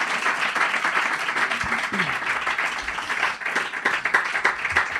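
An audience applauds steadily, a dense crackle of many hands clapping at a fairly loud, even level for several seconds, with a few brief voices poking through.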